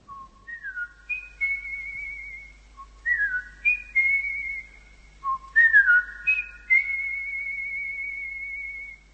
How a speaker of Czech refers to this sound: Na dveře ordinace se neklepe, ale musí se před nimi zahvízdat.